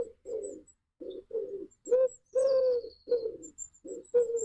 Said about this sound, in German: Wenn du jetzt aus deinem Haus rausgehst, da sitzt sicherlich ein Vogel im Baum, der das macht gerade. Also jetzt gerade hier draußen sitzt auch einer. Okay, dann Taube. Richtig, es ist die Taube. So klingt Tauben.